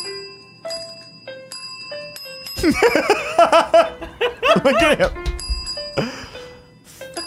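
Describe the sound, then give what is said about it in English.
A small bell is rung again and again in sharp, bright dings, some overlapping and ringing out. Partway through, people talk and laugh loudly over the ringing, which keeps going after. “This one's just called Needs More Bell.”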